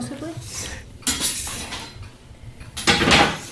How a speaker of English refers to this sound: We've now moved it from the boiling ring onto the simmering ring.